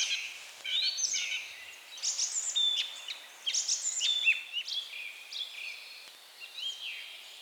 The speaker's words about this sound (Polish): Śpiewak to właściwie taki potok przyjemnie płynących dźwięków. To, co u niego charakterystyczne, to powtarzanie.